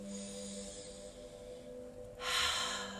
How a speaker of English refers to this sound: And inhaling deeply through your nose, then exhaling fully again. Breathing all the way in